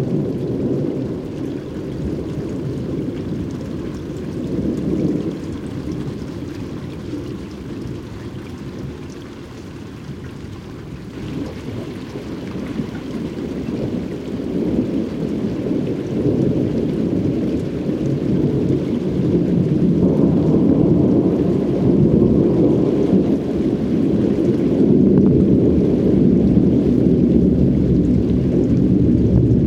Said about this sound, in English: Producer Mark Seth Lender recorded this out-of-season thunderstorm as it passed over Long Island Sound.